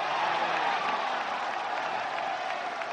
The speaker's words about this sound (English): A couple of weeks later, it was a very different scene as the UMD men's team played St. Cloud State, one of its biggest rivals. This time, there were over 5,000 fans cheering on the Bulldogs.